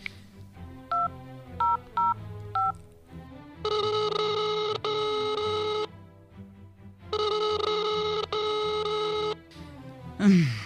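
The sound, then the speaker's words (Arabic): A few quick keypad beeps as a number is dialed on a telephone to call a father, then two long electronic ringback tones buzz one after the other, clear and steady, with no answer and no voices. “اديدي اديلي التلفون اتصل لابوك.”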